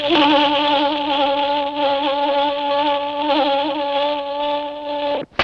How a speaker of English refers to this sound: Stamp out flies before they kill your cattle profits.